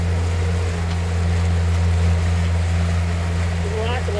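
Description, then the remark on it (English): A motorboat engine drones steadily and loudly, with rushing, splashing water from the wake churning throughout as the heavily loaded boat sits low in the water, making more of a wave. Faint voices come through briefly beneath the noise. “We're putting too much weight, but we're sitting lower in the water, so we're getting a little bit more of a wave.”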